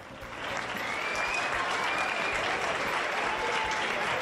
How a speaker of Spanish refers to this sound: Así, entre aplausos, fue recibida ayer a su llegada desde París Carolina Marín.